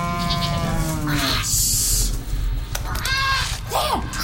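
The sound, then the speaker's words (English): A parrot squawks in a string of wavering, nasal calls, broken by a harsh hissing screech and a few rising chirps, all over a steady low rumble with no talking. “Sammy followed the sound of the parrot's squawk, rushing up the stairs onto the main deck.”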